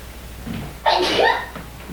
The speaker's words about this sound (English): That was very cute sneeze. I have never heard a scene, a sneeze like that. Can you teach me that later?